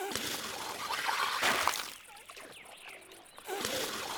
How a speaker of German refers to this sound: Was ist das? Jetzt wird doch mit Wasser rumgespritzt.